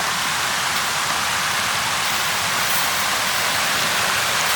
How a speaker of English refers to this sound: Down here we've got, this is where the water comes out of the lake, so it's the old stocking pond where the fish were. But this is where the water goes down.